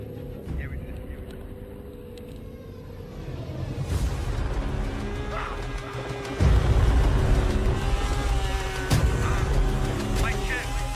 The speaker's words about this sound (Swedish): Och där kommer en bil också.